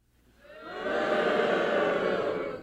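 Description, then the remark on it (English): A live audience, asked to boo, boos together, the collective jeer swelling over half a second into a loud, sustained roar of many voices that holds steady until the end. “Can we actually, just for audio, get a bunch of you booing?”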